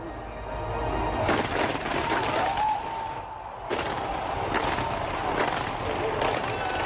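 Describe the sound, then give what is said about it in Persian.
Fireworks going off at the closing ceremony of the Rio de Janeiro Olympic Games in Brazil, in a rapid, uneven series of loud cracking bursts, each one ringing out briefly over a constant roar of crowd noise. “سازمان دهندگان بازی‌های المپیک با مراسم آتش‌بازی به نمایش گذاشتن انندات برزیل، استفاده از رنگ‌های مختلف و هنرنمایی هنرمندان معروف و شهیر برزیل، این بزرگترین رویداد ورزشی جهان را پایان دادند.”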